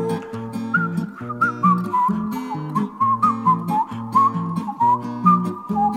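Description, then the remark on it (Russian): A whistled melody wanders steadily over a rhythmic, chord-based musical accompaniment, the tune clear and moderately loud throughout, with no voices. “Ёжик резиновый шел, насвистывал дырочкой в правом боку.”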